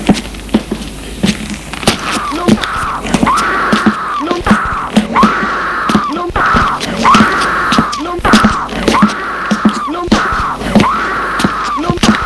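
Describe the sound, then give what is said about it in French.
Strange, horrible screams heard in a basement rise and fall in a steady repeating cycle, each wavering cry drawn out for about a second, with sharp knocks and clatter scattered throughout. “Il entend des cris étranges, des cris horribles.”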